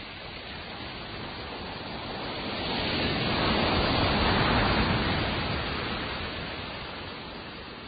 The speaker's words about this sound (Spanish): Levantaron la cabeza y vieron que había una nube negra en el cielo encima de ellos y dejaba caer su lluvia.